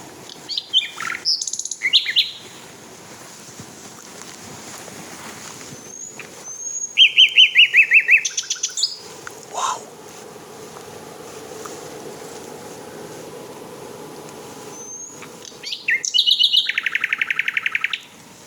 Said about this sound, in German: Es ist so spannend, dass Nachtigall sich davon überhaupt nicht beirren lässt.